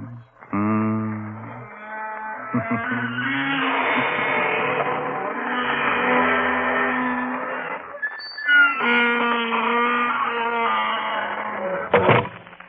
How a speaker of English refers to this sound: Folks, I don't know how you feel, but that spooky bell gave me the shivers.